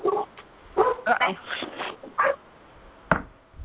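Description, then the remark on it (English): A dog barks in short, uneven bursts and lets out whimpering yips between them, with a brief pause before one last sharp bark. “I'm thankful it's not my dog.”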